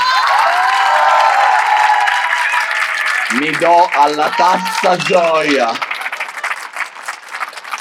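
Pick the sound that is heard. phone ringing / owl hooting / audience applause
audience applause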